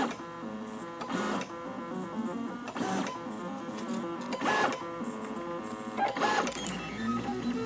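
A 3D printer hums and whirs through a run of circles, its stepper motors producing layered tonal whines that rise and fall in repeating cycles with brief louder sweeps, no voices present.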